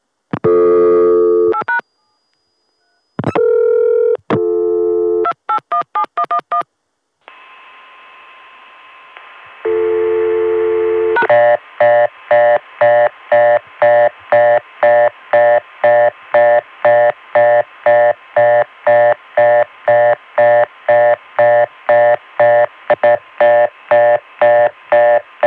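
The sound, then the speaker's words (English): A telephone exchange reorder tone from a Crossbar 5 switch's originating register, given after dialing pound on a dial tone: a loud, rapid, steady on-off beeping that repeats for over ten seconds, preceded by short bursts of dialing tones and a stretch of faint hiss. “Because Crossbar 5 always gives you a reorder tone from the originating register when you do that.”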